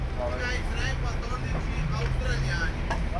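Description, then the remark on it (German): Steady low engine rumble of idling buses and boats at the Tronchetto parking island in Venice, Italy, where tourists arrive every minute, runs throughout, with indistinct voices murmuring over it. “Auf Venedigs Parkplatzinsel Tronchetto werden via Walkie-Talkie die im Minutentakt ankommenden Touristen angekündigt.”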